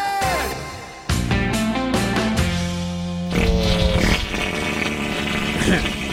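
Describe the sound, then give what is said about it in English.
A string of loud, buzzy fart noises, several drawn-out blasts with wobbling pitch following one after another, prominent over a busy, tonal background. “It's National Fart Day.”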